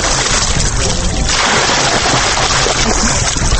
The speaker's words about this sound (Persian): ما هم خواستیم سر به بند قرغه بزنیم که در اوج جوانان زیاد مشغول آبازی هستن.